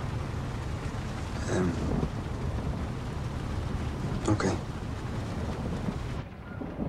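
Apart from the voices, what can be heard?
rain with distant thunder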